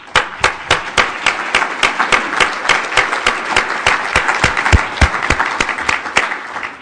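An audience applauding: dense, steady clapping from many hands with a few sharper individual claps standing out, continuing at an even loudness for several seconds with no voices.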